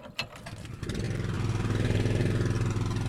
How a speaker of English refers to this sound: So generator on? Yeah, this thing's loud.